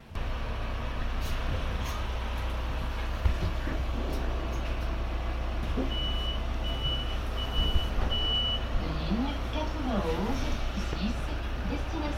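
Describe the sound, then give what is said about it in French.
Steady, heavy engine rumble fills the interior of a city bus that has just pulled away at the Gare de Massy-Palaiseau stop, with a run of short high-pitched beeps midway and people talking faintly near the end. “Ok, alors on est dans le bus là, on vient de démarrer.”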